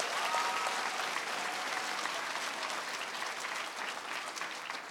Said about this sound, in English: And two of the schools are, the first one is South Allegheny Middle School in McKeesport. How about a big round of applause for them?